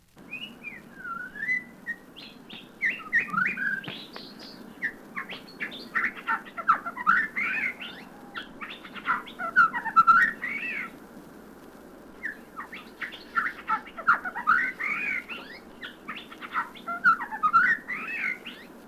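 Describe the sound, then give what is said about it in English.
A Shama thrush, a soft brown-and-black feathered bird from India, sings a rich, varied stream of fluting whistles and chirps in two long bursts separated by a brief pause, clear over a low steady background hum. “The Shama thrush hails from India. Shami is a soft, brown, and black feathered bird.”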